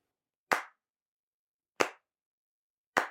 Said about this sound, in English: Good. What's that do? Sync all the cameras and the mics. How's it do that? Because I just sync up the claps.